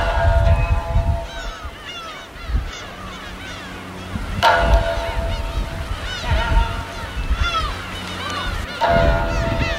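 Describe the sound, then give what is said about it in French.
A flock of seabirds on sandbanks in the middle of a canal leading up to a town calls constantly, with many overlapping honking cries and squawks, some loud, others softer, over a low rumbling outdoor background. “Il y a tous ces oiseaux de mer sur des bancs de sable au milieu du canal qui remonte vers la ville.”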